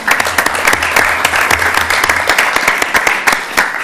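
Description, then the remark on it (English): An audience claps in a steady round of applause, many hands producing dense, sharp crackling claps that stay loud and even throughout, given for TriMet and Raymore Construction for an award. “And if we can, I would honestly like a round of applause because of this award.”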